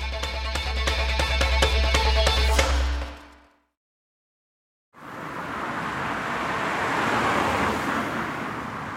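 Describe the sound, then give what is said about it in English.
Street traffic at a bus stop where someone waits for a bus to Woolwich Crown Court: steady traffic rumbles with a low engine drone, then cuts to near silence for a second before a broad roadway hiss of passing vehicles returns and continues. “I am currently waiting for a bus to Woolwich Crown Court”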